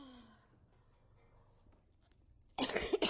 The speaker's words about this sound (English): Got my water, got my cough lolly, had a puff of my inhaler. Don't sit too close, I'll try not to cough on you.